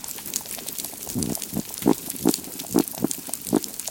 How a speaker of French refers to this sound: Elles s'installent deux fois plus, oui, deux fois plus, là où du son de récif sain est diffusé. Et voilà à quoi ça ressemble.